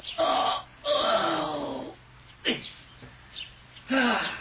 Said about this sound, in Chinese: 这一天是谢大成要上县城去做买卖的日子，一大清早，窗外的小鸟就把他给吵醒了，温暖的阳光照在屋子里。